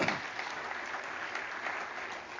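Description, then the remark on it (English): A church audience at a worship service claps steadily as a clap offering to Jesus, a dense, even wash of many hands with no clear beat, holding at a fairly constant level throughout without any talking. “Come on, give him a good clap offering, would you?”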